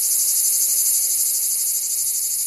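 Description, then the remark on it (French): A loud, unbroken song of cicadas of southern regions, made with their sound organs called cymbals: a dense, shrill buzzing drone with a fast pulsing texture that holds steady throughout, with no voices. “Commençons par les plus connus de nos régions méridionales, les cigales.”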